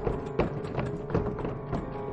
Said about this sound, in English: It seems to be jammed. Cursed humidity, causing these wooden doors to expand in their frames.